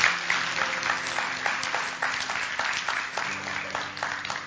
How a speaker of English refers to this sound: Let's just give the Lord a hand clap for what He's doing in people's lives this morning.